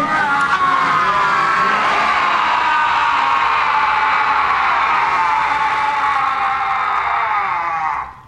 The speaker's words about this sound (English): And this is maybe my favorite Worf moment in all of Star Trek, because as Kuni Vos shuffles loose this mortal coil, Worf and the two other surviving Klingons from the wreck start growling and then let out a crazy scream.